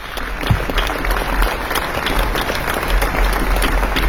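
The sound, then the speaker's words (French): A crowd applauds steadily for several seconds in tribute to a singer, dense overlapping claps forming a continuous wash of sound, fairly loud, with no talking over it. “Oui, vous pouvez l'applaudir.”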